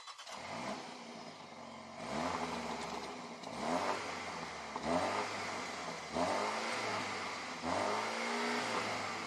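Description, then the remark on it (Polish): A car engine revs repeatedly through its rear exhaust system, about five or six rising blips in steady succession, loud, with a rough, raspy rumble between each burst and no talking. “No i z tyłu widzimy jakże zacny układ wydechowy. Trochę straszy. A jak on brzmi?”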